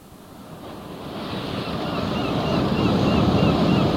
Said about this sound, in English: the local weather center, who advised that severe gales, force 9, veering northwest, increasing storm force 10 are imminent.